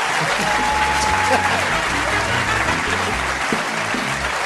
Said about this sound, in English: Ladies and gentlemen, will you please give a massive round of applause for my guest, Steve Coogan? Thank you.